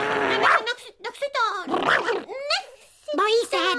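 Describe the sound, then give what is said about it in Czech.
A person imitates an angry dog, voicing a run of rough growls and snarling barks in short bursts, fairly loud, with voiced, speech-like contours between them. “Jo, ale budu strašně hrozně zlý pes a tebe rafnu.”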